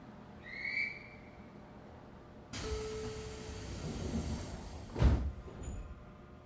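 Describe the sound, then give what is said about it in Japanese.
Japanese train doors closing before departure, the next stop being the terminus Hakata: a short electronic chime, then a sudden rush of pneumatic hiss with a low hum, ending in a solid thump as the sliding doors shut. No voices. “まもなく発車いたします。閉まるドアにご注意ください。”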